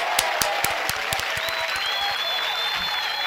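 A burst of audience applause, many hands clapping in a dense, steady patter with sharper individual claps popping out, plus a faint high whistle-like tone running through the second half.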